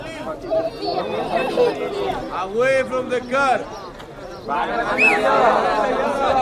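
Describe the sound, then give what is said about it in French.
A crowd of mostly men outside a camp, waiting for an officer in a two-storey prefab cabin to call their names, chatters at once: a dense, continuous babble of overlapping voices that swells and dips, with the officer briefly calling out in English for people to move away from his car. “Il est juché en hauteur dans un algeco à deux étages et il y a une foule de gens en bas, surtout des hommes, qui attendent d'entendre leur nom.”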